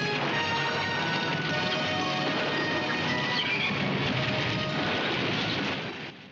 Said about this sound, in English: Johnny leaps onto the horse and rides away. The cavalry are close behind him. They charge out through the gates.